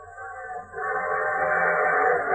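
A passenger train, the 20th Century Limited, rolls along the rails with a steady, continuous rumbling roar that swells louder after a moment and then holds, heard alone with no voices.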